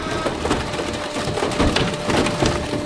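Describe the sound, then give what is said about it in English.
A car is crushed at a scrapyard: steady loud grinding and crunching, with repeated sharp cracks and groans of buckling metal over a constant machinery hum. No one speaks. “This car being crushed has a vehicle ID, but copper wiring rarely has distinguishing marks.”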